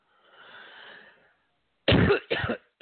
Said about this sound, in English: Sorry about that cough.